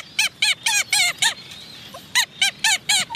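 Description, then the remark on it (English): A tube-nosed seabird gives a loud run of nasal, squeaky honking calls in a steady rapid rhythm, pausing briefly, then starting a second burst. No one speaks. “When they're feeding their chicks, they go on immense journeys across the entire Tasman Sea and beyond, just to get enough energy to support themselves and to provision their young.”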